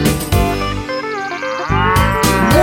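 A loud, drawn-out cow moo, sung by a voice imitating a cow in a song duet with a ram, rises and falls over a steady, bouncy instrumental backing that keeps playing throughout.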